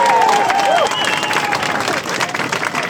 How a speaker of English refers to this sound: Wellington City Council genuinely backs and supports our community. So can we have a big round of applause and a cheer for the Wellington City Council?